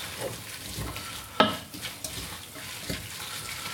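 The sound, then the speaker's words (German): Bell peppers, just added to an already hot pan, sizzle and crackle steadily, a broad hiss with a sharp clatter of stirring near the start and occasional soft knocks; no one speaks. “So, Paprikas dazu. Das ist hier schon schön warm.”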